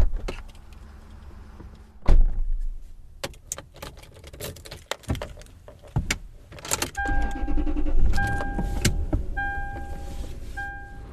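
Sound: inside a car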